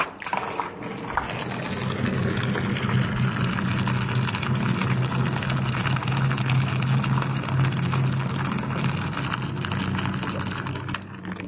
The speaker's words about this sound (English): There it is. Thick, foamy, dark beer poured into this bath, which is apparently supposed to be good for the skin, for the circulatory system, for the blood, for the hair, for everything.